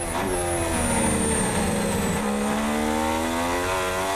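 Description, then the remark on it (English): A pack of Formula One cars roars away from a race start on a racetrack, their engine notes climbing steadily in pitch as they accelerate, loud, with layered whining engines and no voices. “It's lights out and away we go. And who's got the best start out of the front?”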